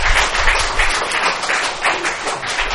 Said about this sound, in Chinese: 给点掌声鼓励他们， 让掌声鼓励他们。